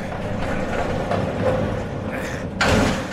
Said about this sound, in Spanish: Con algo de esfuerzo conseguimos empujar la pesada puerta principal, que parece estar anclada al suelo. El sonido al abrirla resuena por todos los pasillos del vacío edificio, y tras ello, un profundo silencio vuelve a apoderarse del lugar.